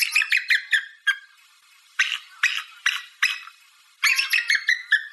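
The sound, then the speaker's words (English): A person imitates an eagle with high, piercing calls: quick bursts of chattering chirps open and close the passage, with four sharper, evenly spaced squeals between them. Loud, with no talking. “…, can you make the sound of an eagle for us right now?”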